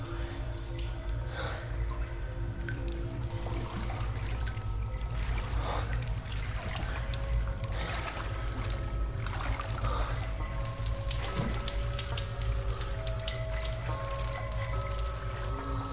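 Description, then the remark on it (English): Slow, cautious footsteps wade through ankle-deep water in a water-filled shaft, each step a soft squishy splash every second or two, over a steady low rumbling hum with occasional drips and no voices. “steps cautiously into the water, which comes up to his ankles.”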